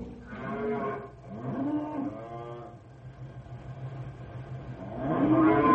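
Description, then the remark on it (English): A large herd of cattle, ridden herd on by one man, mooing in long, drawn-out calls, two in quick succession and a third after a pause, several animals lowing over a steady low rumble. “Rough work, one man riding herd on this many cattle.”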